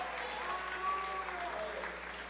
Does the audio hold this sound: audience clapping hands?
yes